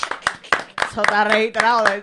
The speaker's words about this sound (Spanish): Un aplausito.